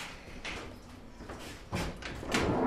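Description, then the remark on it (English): A cliff railway carriage's sliding door is opened by the attendant at the top after the carriage stops, rattling and scraping, with a few bumps and clunks over about three seconds and no talking. “And the bloke at this end opens the door.”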